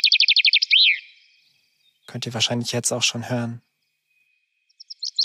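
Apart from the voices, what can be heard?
common chaffinch song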